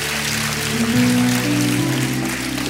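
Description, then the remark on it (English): Scattered, light clapping from a few people, a steady patter of hand claps over sustained low keyboard or organ tones that shift pitch partway through. No one speaks. “A couple people clap for that.”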